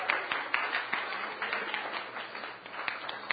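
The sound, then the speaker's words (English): A church audience claps hands for the Lord in a steady, dense wash of applause, many overlapping claps at moderate volume with no talking over it. “Let's give the Lord a hand clap today.”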